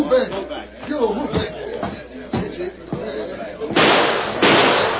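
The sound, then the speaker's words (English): A gunshot is fired through a window at a masked man: several sharp bangs cut through excited crowd chatter, followed by a loud, harsh burst of noise that sustains to the end. “Deke shot at the masked man. Shot through the window.”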